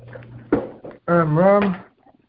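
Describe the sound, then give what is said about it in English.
A chair is shifted and set down with a sharp knock, followed by a drawn-out, squeaky scrape across the floor, fairly loud, with faint low hum beneath, as a borrowed chair is put in place to sit on. “Put the chair, and here we go.”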